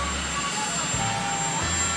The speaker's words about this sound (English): You have a helicopter raging back for all the people that